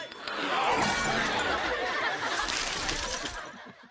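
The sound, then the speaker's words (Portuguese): Ice cracks and shatters loudly, a dense burst of crunching, splintering fragments that keeps crackling for about three seconds before cutting off abruptly. “Quebra-gelo.”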